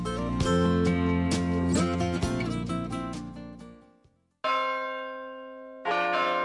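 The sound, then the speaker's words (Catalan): Church bells ring loudly, several strikes blending into a rich, sustained peal that fades, then two fresh clear strikes ring out, in a piece for Rifé Rocafé, a bell foundry that installs monumental clocks. No voices are heard. “Rifé Rocafé, empresa dedicada a la foneria de campanes, la instal·lació de rellotges monumentals i la sonorització d'esglésies, col·legis, ajuntaments i institucions religioses.”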